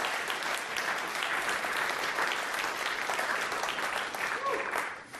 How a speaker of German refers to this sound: Und ich denke, alle, die das gut finden, lasst uns ihnen mal einen Applaus geben als Ermutigung, als Startermutigung.